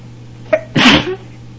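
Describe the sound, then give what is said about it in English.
A single loud sneeze: a quick sharp intake of breath, then an explosive burst that trails off. A faint steady hum runs underneath. “Oh, enough to get anyone sneezing, I think.”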